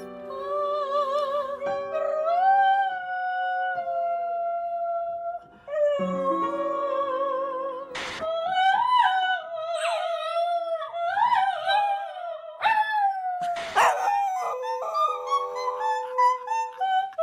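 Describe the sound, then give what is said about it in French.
A dog howls in long, wavering tones alongside its owner singing, the two voices rising and sliding together through several short segments with brief breaks between them. “Mais quand vous chantez, ce chien vous accompagne aussi.”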